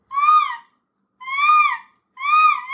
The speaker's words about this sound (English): It's a hawk